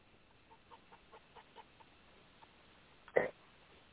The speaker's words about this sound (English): I thought I heard chickens running around. You might want to catch them and pluck them.